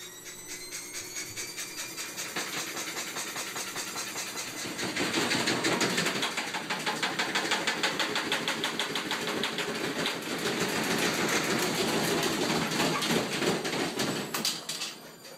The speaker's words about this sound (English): And so we ran into the laundry to find our washing machine was in spin cycle. And it was out of balance. It was making this incredible noise. It looked a little bit like this.